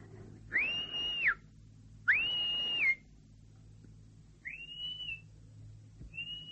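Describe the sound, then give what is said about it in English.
A man's daughter whistles two loud, sustained high notes, then two fainter, shorter ones, against a low steady background hum with no talking. “Who's that whistling?”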